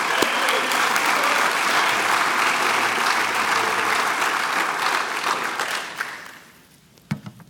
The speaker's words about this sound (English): And while you're clapping, just help me welcome Dr. Sam Wan to our chapel pulpit today.